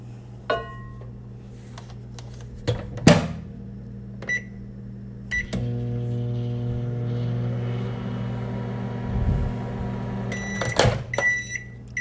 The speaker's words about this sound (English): No, this is the step that makes it special. Go up to your microwave, and you're going to microwave this for 5 seconds.